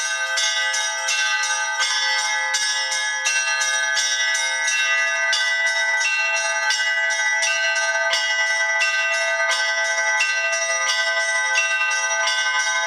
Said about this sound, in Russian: Когда человек приходит обучаться искусству колокольного звона, определенных каких-то требований к нему нет. Главное, чтобы это было чувство ритма, хотя бы какое-то начальное